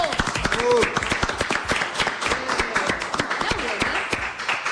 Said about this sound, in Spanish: Aplausos. ¡Bravo